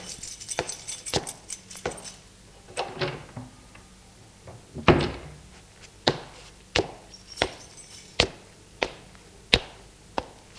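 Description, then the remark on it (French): Crisp clicks and knocks of a door being unlocked and opened with keys as someone enters their own home, with a heavier thud midway, then a steady run of sharp taps. Nobody speaks. “Christian entre chez lui, il a les clés.”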